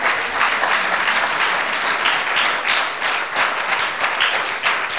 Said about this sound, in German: Das ist durchaus ein Applaus wert. Ich finde es wichtig und ich finde es mutig.